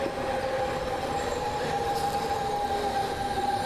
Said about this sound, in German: Immerhin kein DT5, das heißt, der wird beim Bremsen nicht ganz so laut quietschen.